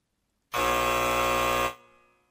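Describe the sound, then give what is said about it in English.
A buzzer is hit and blares loudly and harshly once for just over a second, cutting off abruptly and leaving a brief fading ring. No voices are heard. “I thought this was your this was the time where you're slamming me, so I got to hit the buzzer every time.”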